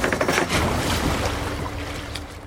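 Wildlife biologists push a green raft into a flowing river at the Highway 89 fishing access south of Livingston on a Friday morning, with steady rushing and sloshing water and some light knocks and splashes over the whole stretch. No one speaks.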